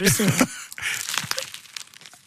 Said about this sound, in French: Le bruit de la baguette. C'est croustille. C'est bon.